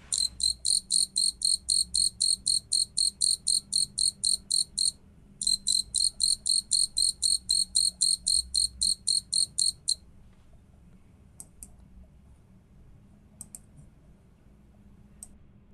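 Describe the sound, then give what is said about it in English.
A Japanese burrowing cricket sings a loud series of rapid, evenly spaced pulsed chirps, pausing briefly midway, then falls silent except for a few scattered single chirps over faint low background noise. “Let's listen to this Japanese burrowing cricket.”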